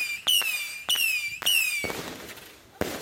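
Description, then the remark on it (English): Fireworks going off: several sharp bangs in quick succession, each paired with a high whistling shriek, followed by a fizzing crackle and one last loud pop. “Depending on your perspective, fireworks can be a blast, pun intended, or they can be super annoying.”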